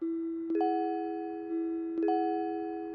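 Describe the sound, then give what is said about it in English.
A timer chimes to signal nap time, sounding a bright two-note ding-dong twice about a second and a half apart, each set of tones ringing on and slowly fading. No one speaks. “That timer tells me it's nap time now.”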